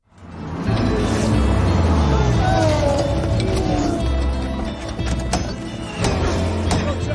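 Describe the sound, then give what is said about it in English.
A Ford race car pit stop at Le Mans in the early morning hours: a loud, steady engine drone with rising and falling tones, punctuated by sharp mechanical clanks and quick tool bursts from the Ford pit crew working on the car. “And so I want you to watch the Ford crew as they go to work on the car in the early morning hours of Le Mans.”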